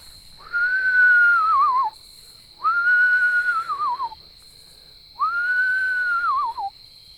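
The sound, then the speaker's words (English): Someone whistles an imitation of an owl call three times, evenly spaced, to call owls. Each clear note holds steady, then wavers and slides downward. A faint, steady high tone hums in the background. “So now I'm going to call.”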